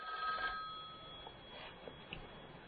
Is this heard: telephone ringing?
yes